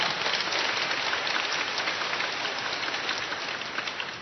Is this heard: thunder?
no